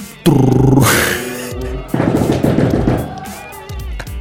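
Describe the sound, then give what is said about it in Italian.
A voice imitates a drum roll with a loud, rapid rattling trill, then a second burst of quick, even pulses that fades out after about four seconds, as a build-up before announcing the day's topic on a live stream. “Argomento che oggi per la nostra diretta Sing Your Way sarà rullo di tamburi.”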